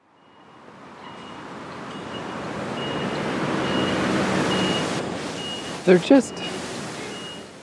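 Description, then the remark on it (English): Two quick, sharp beeps from a bus waiting at a traffic light on the outskirts of Taipei, heard from an overpass, cut through a steady wash of traffic rumble, sounding close together in a short double pulse near the end. “There just can't be a reason for it to beep when it's parked, when it's just waiting at a light.”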